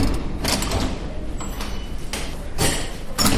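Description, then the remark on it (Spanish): In a hospital, a doctor takes a key from her pocket, unlocks a door marked as the room for preparing corpses and swings it open, with several short scraping and clunking bursts against a steady background hiss. “La doctora Salas saca de su bolsillo una llave y abre una puerta”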